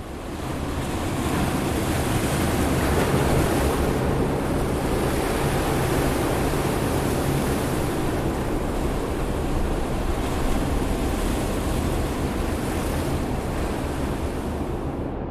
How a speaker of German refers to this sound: Ja, das war jetzt gerade das Rauschen von Meereswellen im Tank